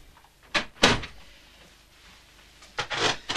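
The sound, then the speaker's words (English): A door into a drawing room being opened: a couple of sharp wooden knocks and clunks from the latch and frame near the start, then a rattling cluster of handling noise toward the end, moderately loud. “She walks down a hallway, stopping at a door and leaning against the frame, collecting herself before opening the door into the drawing room.”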